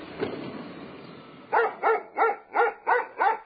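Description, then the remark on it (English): A dog, Buster, the dog next door, barks six times in a quick, steady rhythm, each bark sharp, after a brief stretch of quiet background noise. “"Can't stop today, Buster," she called as she passed the dog next door.”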